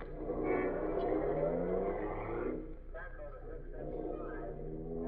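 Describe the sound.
A car engine hums steadily, a low continuous drone running under voices that talk over it throughout.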